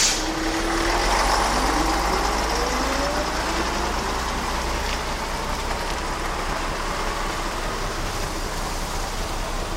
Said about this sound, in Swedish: Men bussen är fullpackad. Det finns ingen plats på bussen. Går det inte? Nej, det går inte. Det där. Nej, det går inte. Bussen rör upp ännu mer damm och åker sin väg.